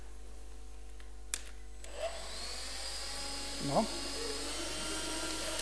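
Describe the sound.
A click, then a vacuum cleaner switches on and whirs steadily with a broad rushing whine, while a voice briefly speaks over it.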